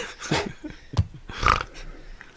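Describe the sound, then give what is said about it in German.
A short, low pig-like grunt, a couple of rough snorting bursts over about two seconds, with no talking. “Oh, da wurde mal kurz gegrunzt.”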